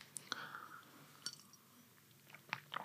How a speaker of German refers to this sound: Gut, ich habe es verdaut, ich habe einen Schluck Wasser getrunken